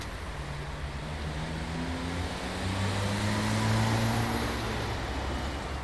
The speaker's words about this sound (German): Diese Atmos setzen sich aus Soundsignals zusammen. Auf der Straße fahren Autos, Passanten gehen vorbei.